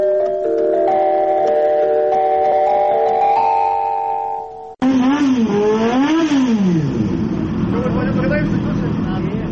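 Steady sustained tones give way abruptly to a loud motorcycle engine revving, its pitch climbing and falling in repeated surges for several seconds.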